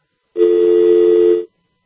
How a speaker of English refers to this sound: You didn't want a dial tone there, did you? I clicked, I think, on that line and made that person hang up.